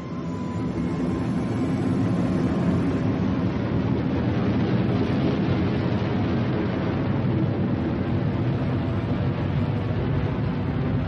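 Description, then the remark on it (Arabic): A steady, heavy engine roar of aircraft flying overhead fills the whole recording, a broad low rumble with a hissing upper edge that holds constant and loud without pause. “وخرج ولدي من السيارة، فجأة حن صوت الطائرات فوقنا.”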